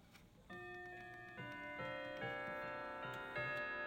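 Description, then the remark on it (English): A clock ticks at a steady, fairly quick pace while striking the hour, each tick accompanied by bright ringing tones that build up and linger, like a chiming mechanism. No one speaks. “Anyway, it actually looks like it's saying 4 o'clock now, but I don't know.”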